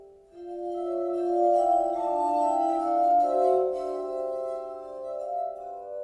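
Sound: glass harmonica playing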